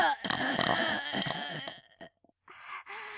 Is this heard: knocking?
no